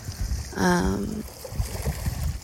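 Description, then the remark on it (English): Ocean water sloshes and laps steadily around a pier, a low rushing wash throughout. A brief humming, voice-like tone rises over it early on, then fades back into the water noise. “Can you hear the ocean?”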